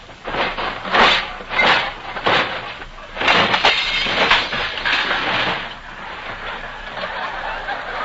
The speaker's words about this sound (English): Whistling gaily, he opens the front door, walks briskly down the hall, starts down the steps to the sunken living room, and trips on a toy train that is parked in the middle of the street.